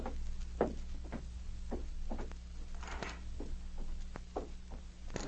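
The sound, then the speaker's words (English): A big St. Bernard dog named Lucky whines and scratches frantically at a door just closed behind someone: a dozen or so short irregular bursts of scratching and thumping over a steady low hum, not loud, with no one speaking. “As Frankie closed the door behind him, the big St. Bernard whined and scratched at the door frantically.”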